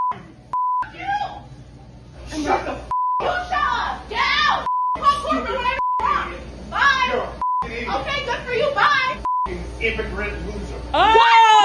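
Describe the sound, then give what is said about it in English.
Loud, agitated shouting repeatedly cut by flat, steady censor bleeps, about half a dozen of them spaced through an angry outburst by a Merrill Lynch banker at a smoothie store, with several voices yelling over one another. “It's a lot of beeps.”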